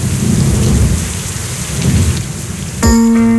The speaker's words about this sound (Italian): Eh sì, piove.